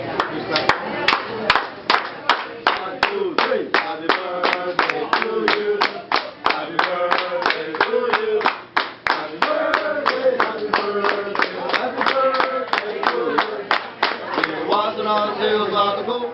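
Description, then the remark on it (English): A group of restaurant wait staff claps a brisk, steady beat, a little more than two claps per second, while loudly chanting a birthday song together throughout: the birthday clapping song of the Benihana restaurant chain. “You know, they'd have their wait staff with out the there clapping, doing right? the clapping song.”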